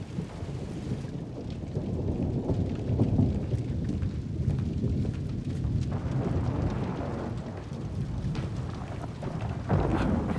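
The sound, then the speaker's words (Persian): A steady, loud night-time downpour in a city roars continuously, the rain blocking the sewers, with a deep rumble of thunder rolling underneath. No one speaks, and the storm keeps a constant, enveloping intensity throughout. “قربان، دکتر، عجب شبی شده. بارون راه فاضلابو بند آورده.”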